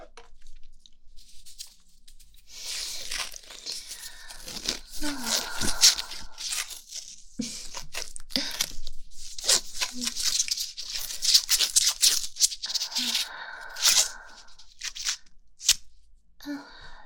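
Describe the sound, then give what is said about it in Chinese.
Adhesive tape is pulled off a roll and wrapped tightly around something in repeated sharp, crackling rips, fairly loud, with brief rustling pauses between the tearing bursts; only a small amount of tape is used. “好了，才用了这么一丁点的胶带就缠得严严实实的”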